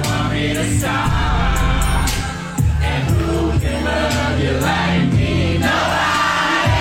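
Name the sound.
crowd cheering and whooping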